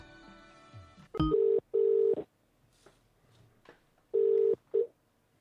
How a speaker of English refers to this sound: I'm going to try and just phone, see if she's going to answer a phone now. Let's see how this goes.